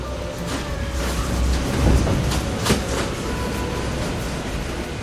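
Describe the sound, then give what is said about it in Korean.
A 40-seat monorail train carrying visitors 120 m into Daegeumgul cave in Daei-ri county park runs steadily with a continuous low mechanical rumble, light rhythmic rattling and a faint whine, swelling briefly around the middle with a couple of sharp clacks. “도보로는 갈 수 없고 40인승 모노레일을 타고 굴 안쪽 120m까지 들어간다.”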